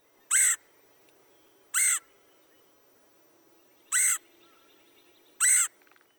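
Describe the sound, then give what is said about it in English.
Four loud, raspy, high-pitched calls of a red-headed woodpecker, each short and harsh, spaced a second or two apart over quiet outdoor background, with no voices. “Remember, the raspy, high-pitched queer of the red-headed woodpecker.”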